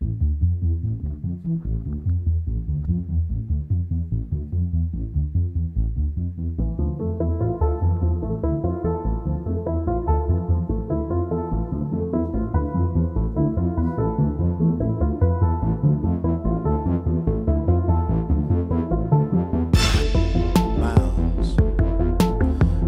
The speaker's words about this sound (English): So there's actual real rapping in this song in addition to real singing. Yes. Let's hear a live performance.